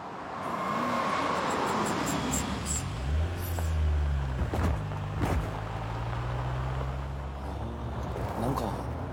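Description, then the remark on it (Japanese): A large, imposing car likened to a tank has a heavy engine that rumbles, its deep drone shifting in pitch as it rolls up and slows, with faint indistinct voices in the background. “偉そうな車に乗り上がって。 もはや戦車ですね。”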